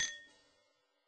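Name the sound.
wine glasses clinking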